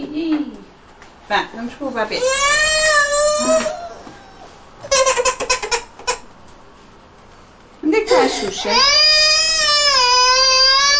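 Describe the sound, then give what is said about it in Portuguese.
A baby girl cries loudly in long, wavering wails, with a short burst early on, a pause of choppier sounds in the middle, then a sustained sob that keeps going to the end. “Queres a tua Xuxa? Vá lá. Ficas mais calma.”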